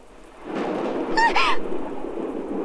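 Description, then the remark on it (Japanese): A loud, rolling rumble of thunder builds over steady rainfall and stays heavy to the end, with a brief high-pitched squeal cutting through midway. “雷？停電？怖いよ。”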